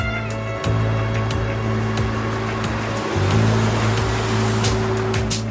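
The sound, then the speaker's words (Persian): A car engine is started and rumbles loudly and steadily as the car pulls away, its low drone briefly dipping and shifting pitch twice as it picks up speed, with a broad rushing noise over it. “همینطور که چشمش به ماشین سیاوشه، ماشین خودش رو روشن میکنه و حرکت میکنه.”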